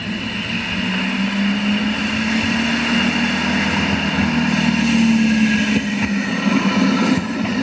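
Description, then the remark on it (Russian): A tram, about 30 tonnes of metal, rolls along metal rails with a steady, loud rumble and a low droning hum that slowly rises in pitch, with brief faint scraping squeaks toward the end. No one speaks. “Если 30 тонн металла едет по металлическому пути, но всегда шум будет.”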